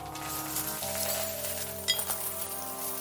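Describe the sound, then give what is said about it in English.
Bright metallic clinking of hundreds of gold coins pouring out of a vase and forming a pile on a worn carpet in front of a counter, a steady shimmering jingle with one sharper chink near the end, continuous and fairly loud, with no voices. “The sound he was hearing was from coins forming a pile on the worn carpet in front of the counter.”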